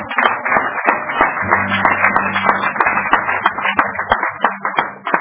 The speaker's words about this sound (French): Applaudissements.